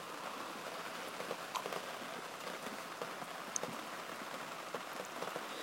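rain falling outside

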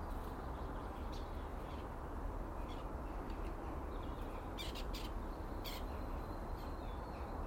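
birds calling

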